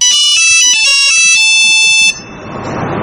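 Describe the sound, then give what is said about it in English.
A loud, electronic Nokia ringtone melody plays as the device dials, a quick series of bright, buzzy notes for about two seconds, then cuts off into a steady hiss of noise. “It plays that annoying Nokia ringtone when it dials.”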